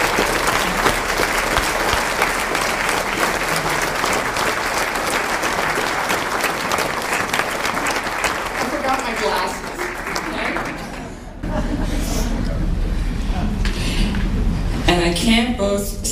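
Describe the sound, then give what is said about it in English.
A crowd applauds steadily with dense, continuous clapping that stays loud throughout, with a brief dip before it swells again, and a few voices and cheers mixed into the clapping. “And so please, a huge round of applause for the woman without you,”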